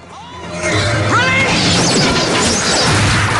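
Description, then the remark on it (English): A dense burst of sharp impacts and swishing whooshes as soldiers on a bridge shoot a volley of arrows at a flying vampire, striking near city walls, loud, with crashing clatter continuing over a steady low rumble. “Arrows rain down on the vampire, splattering the city walls with blood.”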